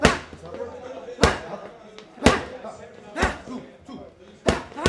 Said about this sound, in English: Diaz throws a flurry of warm-up punches into a coach's padded mitts